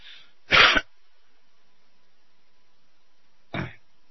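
Someone clears their throat twice: a loud, harsh burst, then a long silence before a shorter, softer rasp. No one talks.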